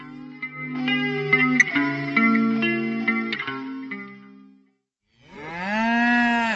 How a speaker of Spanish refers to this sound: Ahí va la vaca